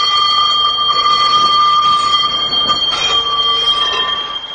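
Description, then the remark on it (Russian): A tram rolls along rails, its wheels giving off a steady, high-pitched metallic squeal over a low rumbling drone, loud throughout and fading slightly at the end. “Московский трамвай, киевский трамвай, ленинградский трамвай, детский трамвай, тбилисский.”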